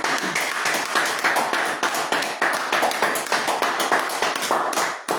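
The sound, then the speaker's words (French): An audience claps together, a dense, steady wash of many hands smacking at a brisk pace, loud and sustained for the whole stretch with no voices over it. “On applaudit.”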